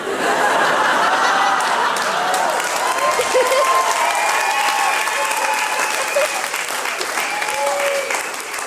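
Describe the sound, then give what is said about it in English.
Sustained applause from an audience at a stand-up comedy performance, clapping for a comedian's joke, a dense steady wash of clapping lasting several seconds, with scattered chuckles and murmuring voices mixed in. “I love how you're clapping for my future, which is sad and dire.”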